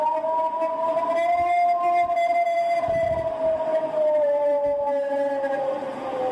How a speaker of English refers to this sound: I think the whale in the middle of this clip is the most disconcerting. Let's play that howling whale again.